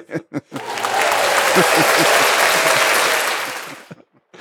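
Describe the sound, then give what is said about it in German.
A dense, steady patter of rain on a roof window, starting abruptly and holding for about three seconds before fading. Brief speech comes just before it and right after. “Vielleicht hört man das gerade, wie der Regen auf das Dachfenster passt.”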